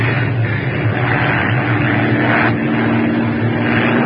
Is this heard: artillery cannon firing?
no